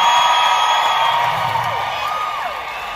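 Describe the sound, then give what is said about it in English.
A big concert crowd in Las Vegas, including Route 91 survivors, roars and cheers at the performer's first show back in Vegas. The sound is a steady, loud wash, with scattered whoops and high shouts rising above the constant din for the full three seconds. “Here he is with the crowd.”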